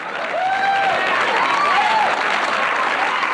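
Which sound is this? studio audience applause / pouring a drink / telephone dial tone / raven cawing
studio audience applause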